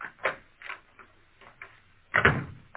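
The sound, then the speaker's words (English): Sounds of the warden's office door in a state prison opening: a few soft, irregular clicks of the handle and latch, then a louder rattling clunk as the door swings. No voices. “The guard stopped before the door to the warden's office. Come in.”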